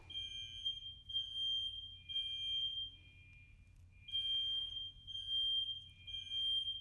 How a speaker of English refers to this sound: And in case you can't tell, the fire alarm's going off. I have no idea what to do.